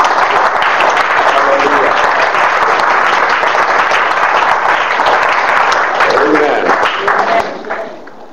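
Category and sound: crowd, audience clapping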